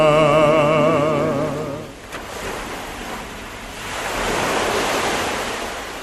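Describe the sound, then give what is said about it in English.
Sea waves surge and break against the rocks of a coastline in a steady, rushing wash that swells loudly again toward the end, following a brief wavering tonal hum at the start. “Contemplate the sea of stories that beats against the rocks.”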